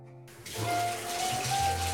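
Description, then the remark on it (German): A bathtub tap is turned on after a brief silence, releasing a steady rush of running water that continues unbroken to the end, with no voices. “dreh mal den Wasserhahn auf. Von der Badewanne.”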